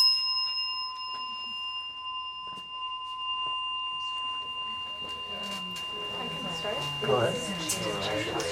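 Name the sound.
bell being rung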